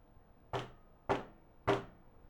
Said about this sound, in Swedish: När de kommer fram till hubben knackar de på dörren.